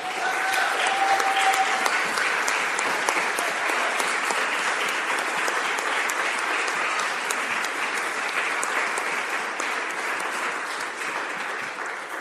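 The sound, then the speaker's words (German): An audience claps steadily for about twelve seconds for the women staff of the confirmation class group, a dense, even wash of many hands with no break, holding loud throughout before easing slightly at the end; a faint tone sounds briefly early on. “Ich glaube, es ist einen großen Applaus wert, dass die Mitarbeiterinnen der Konfirmandengruppe das heute so toll gemacht haben.”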